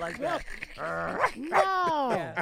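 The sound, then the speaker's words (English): A person's voice mimics a puppy, letting out several whiny yips and yelps that swoop up and down in pitch, one after another over a couple of seconds. “You know, I do like a little puppy.”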